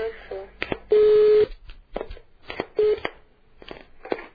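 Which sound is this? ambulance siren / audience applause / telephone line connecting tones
telephone line connecting tones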